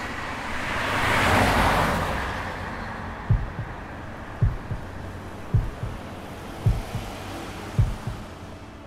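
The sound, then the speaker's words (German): Steady road rumble from a car in motion on a highway, driven from New York out to the countryside toward Ephrata, Pennsylvania, with a rushing swell early on, then regular low thumps about once a second, like tires rolling over pavement seams. No one speaks. “Ich bin mit dem Auto raus aufs Land gefahren.”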